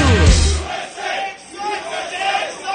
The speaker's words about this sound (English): Quite a patriotic crowd here today, Ralph. They love America, that's for sure.